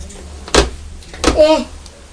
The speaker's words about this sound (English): Is that somebody putting something through the letterbox? There's a gentleman standing outside.